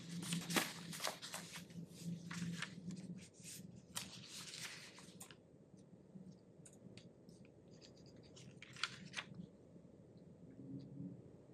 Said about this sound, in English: Go ahead. You type whatever you're typing. Yeah. Type, type, type.